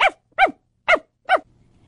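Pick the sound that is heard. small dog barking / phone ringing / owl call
small dog barking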